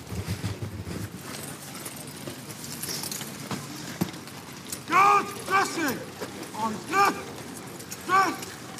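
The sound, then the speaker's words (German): The hooves of the Horse Guard's seven black cavalry horses clop and shuffle during an inspection on the forecourt by St. James Park, with occasional metallic clinks, followed by the commander's several loud, drawn-out shouted commands echoing in an open outdoor space. “Nächste Station, The Horse Guard mit den schwarzen Pferden. Und das ist die Inspektion der Horse Guard hier auf dem Vorplatz beim St.”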